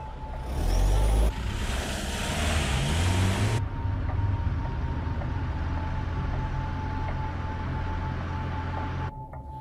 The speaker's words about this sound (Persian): الان با یه لیموزین سفید از اینجا رفتن. میخوام همه تون برین دنبالش.